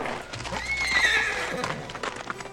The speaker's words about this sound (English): And for once, the horse was there. A white stallion, glittering in the afternoon sun.